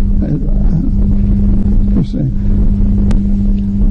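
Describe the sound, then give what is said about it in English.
A fire engine passing by, its heavy motor rumbling in a steady, loud low drone with a constant hum that holds for the full few seconds without any siren. “So focusing on going from the fire engine, my breath, what's the difference?”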